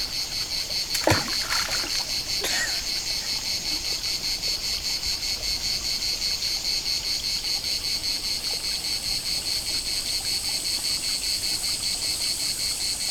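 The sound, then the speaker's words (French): A cicada sings in a steady, high, pulsing drone that fills the whole scene, with a few brief knocks or splashes near the start and no voices. “Une cigale qui chante.”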